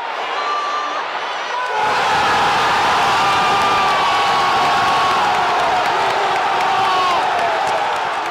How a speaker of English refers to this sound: Incredible reaction there from the San Siro crowd. Seedorf with a lob pass over, which Inzaghi chests down, and then he curls his half volley past the Novara keeper, and the club go into meltdown at the stadium and in the studios.